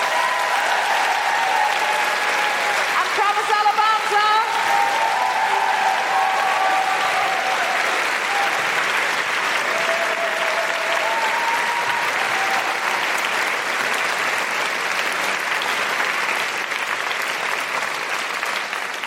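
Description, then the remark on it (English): Sustained audience applause at a live show fills the whole stretch, a dense, steady clatter of many hands clapping at an even loudness, with a few whistles or cheers rising briefly early on. “A big, huge round of applause”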